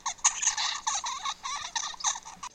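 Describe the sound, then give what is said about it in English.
A juvenile songbird makes its first vocalizations, babbling in a steady stream of raspy, chattering syllables, each one shaped differently with no repeating pattern, running continuously without pauses. “And the first vocalizations that a juvenile makes is highly variable, akin to vocal babbling.”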